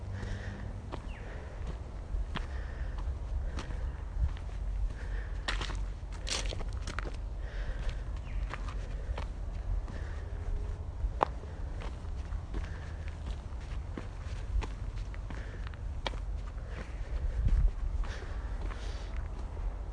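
Footsteps walking outdoors on high ground above Hobart at a steady, unhurried pace, each step a soft crunchy tap, over a constant low rumble of wind and far-off Hobart traffic. No one speaks.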